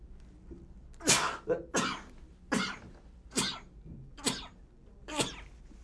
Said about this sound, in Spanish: Salud. Nunca había estornudado en todo el año en el programa. En el último programa tenía que ocurrir.